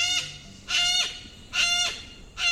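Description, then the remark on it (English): Yellow-crested cockatoo calls: four loud, harsh, raspy screeches repeated at a steady pace, with short gaps between them and no one talking. The birds are over a foot tall, with white plumage and a showy yellow crest. “Yellow-crested cockatoos are victims of their own charisma.”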